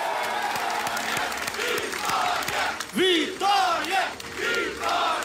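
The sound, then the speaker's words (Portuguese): A large crowd of Portuguese voters cheers loudly and continuously, celebrating the election result of the Chega party in Portugal, with several voices breaking out in long, rising shouts midway through over a steady roar and scattered clapping. “O grito de vitória de parcela dos eleitores portugueses é pelo resultado alcançado pelo Chega.”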